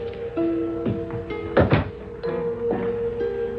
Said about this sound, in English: I saw a light on. I pushed open the doors.